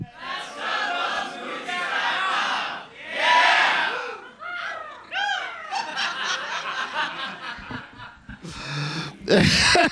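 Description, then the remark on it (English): A comedy show audience caws like an eagle after the comedian's website name, DouglasMovies.com, is said: loud overlapping screeches with rising and falling pitch, mixed with shouting and bursts of laughter throughout. “But yeah, people have decided to caw at the end of that, and I don't know.”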